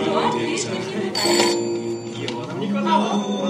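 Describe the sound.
A telephone rings with a steady, trilling electronic tone amid busy, reverberant surroundings, voices talking over it throughout.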